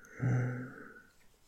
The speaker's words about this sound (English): And I love the scent of you. Breathing in.